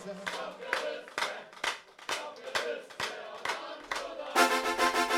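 A crowd claps together in a steady, even beat, with voices singing along underneath; near the end the singing swells louder over the rhythmic clapping.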